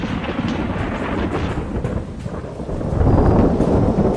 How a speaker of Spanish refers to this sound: Llueve a cántaros esta noche y sigo desvelada. Siempre amé la lluvia, excepto en este invierno.